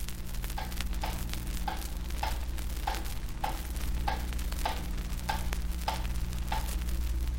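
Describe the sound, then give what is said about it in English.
A clock ticks steadily, about a dozen crisp, evenly spaced ticks over a constant low electrical hum, with no voices. “It was the clock.”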